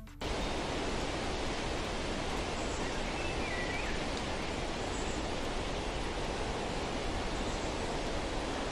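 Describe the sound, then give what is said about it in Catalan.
Wind rushes through trees in a steady, unbroken hiss for the whole stretch, with a few faint, high bird chirps barely poking through the noise. No one speaks. “Efectivament, es tracta dels clàssics sons que associem amb la naturalesa, però més concretament són els sons dels ocells i del vent contra els arbres.”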